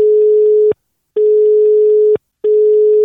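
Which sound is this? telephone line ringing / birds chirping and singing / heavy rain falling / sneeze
telephone line ringing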